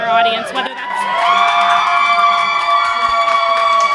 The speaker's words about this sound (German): Unser Gespräch wird durch einen Jubelsturm der Demokraten unterbrochen. Es ist 20 Uhr und Clinton gewinnt eine Reihe von Staaten an der Ostküste, unter anderem Maryland